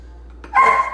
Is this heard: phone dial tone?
no